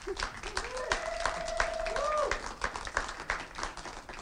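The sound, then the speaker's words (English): An audience claps steadily, a dense patter of irregular hand claps at moderate volume throughout, with a raised voice or cheer briefly sounding over the applause. “Yes, you should clap.”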